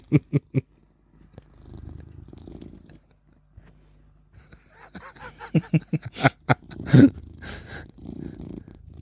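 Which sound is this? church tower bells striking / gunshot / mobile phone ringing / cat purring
cat purring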